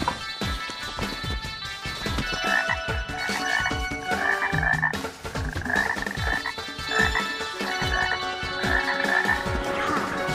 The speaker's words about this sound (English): You found one, a wood frog, Rana sylvatica. It's kind of small. Oh, they're small, but it's one special frog.